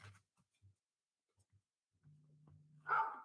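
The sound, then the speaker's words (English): A single short, sharp dog bark comes right at the end, loud, after a low steady hum and a few faint soft thumps in near silence. “Did it bark yet?”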